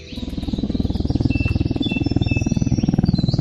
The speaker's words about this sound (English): Drones can be an environmental pest, if you don't mind me saying so, but some of them are being put to good intent, even in the deepest, darkest parts of Tassie.